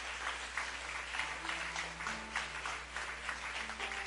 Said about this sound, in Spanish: Yo quiero que le dé un aplauso al Rey de Reyes, al Señor de Señores.